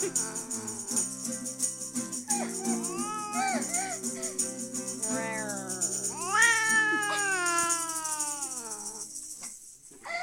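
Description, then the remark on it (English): A cat meows repeatedly, long drawn-out wavering meows that rise and fall in pitch, fairly loud over a steady low background hum. “We're gonna have a cat beast party tonight.”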